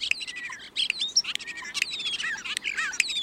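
European starling calls: a busy, continuous stream of squeaky whistles, rising and falling slurs, and raspy clicks, moderately loud, with no voices.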